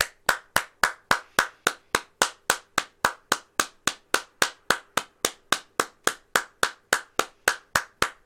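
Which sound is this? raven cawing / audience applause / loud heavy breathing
audience applause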